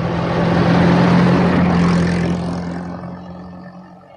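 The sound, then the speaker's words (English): A hired car's engine roars with a steady low droning hum, swelling briefly before gradually easing off and quieting as the vehicle pulls up. No voices. “The car arrives.”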